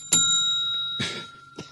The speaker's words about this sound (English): Every time you hear a bell ring, it means that some angel's just got his wings.